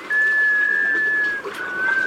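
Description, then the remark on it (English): A sea duck gives a musical, wailing call: a long sustained tone that breaks off, then resumes briefly after a short pause. It sounds clear over a soft background hiss. “An unmistakable clue to their presence? That mysterious musical whale.”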